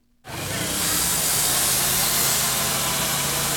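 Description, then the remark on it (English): A chainsaw carving ice at the 5th annual Ice Festival on Portland Street in downtown Dartmouth kicks in abruptly and roars at full throttle, a loud, steady, buzzing engine drone with a harsh hissing edge that holds without pause. No voices are heard. “The roar of chainsaws and the sound of chipping ice fills the air on Portland Street.”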